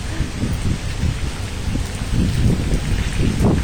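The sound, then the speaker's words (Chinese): Heavy rain pours down outdoors in a steady, dense hiss, with low rumbling surges swelling and fading throughout, on a day with a forecast high of 39°C. No one speaks. “我感觉站在这里就像一个洒水车在我旁边。”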